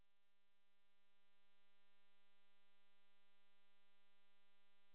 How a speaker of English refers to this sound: I think what you might be hearing is my air conditioner running in the background.